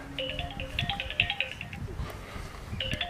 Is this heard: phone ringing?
yes